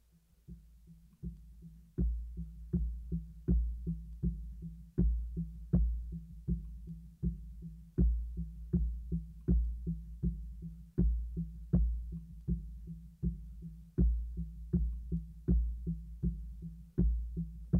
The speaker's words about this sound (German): schwerelos schwebst du im Fruchtwasser. Du hörst ein Rauschen, entfernte Stimmen und du folgst dem Herzschlag deiner Mutter über dir.